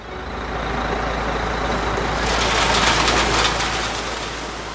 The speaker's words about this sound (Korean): 나팔 소리가 들리자 무지무지하게 큰 트럭 10대가 썩은 토마토 120톤을 마을에 여기저기에 쏟아냈다.